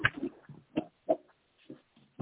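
A pig named Henry, being babysat, grunts in a run of short, low, snorting bursts, about six of them at uneven intervals, moderately loud, with quiet gaps between.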